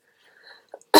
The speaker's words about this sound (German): Es tut mir leid, wenn ich ab und zu husten muss.